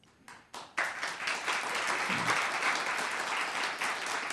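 An audience at a broadcast of NPR's Talk of the Nation breaks into applause: a few scattered claps at first, then a dense, steady wash of many hands clapping that stays fairly loud until the end.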